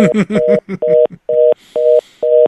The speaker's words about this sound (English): But before that, we're going to go we're going to try to we're getting a dial tone.